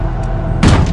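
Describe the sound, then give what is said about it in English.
A room door off an upper walkway is kicked open by a detective aiming a shotgun, one sudden, heavy crash breaking through a steady low rumble that fills the moments before it. “Ricardo kicks it open,”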